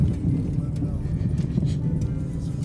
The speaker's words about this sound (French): Je sais pas si vous entendez, mais la voiture est pas mal secouée. Pourtant, c'est un 4x4.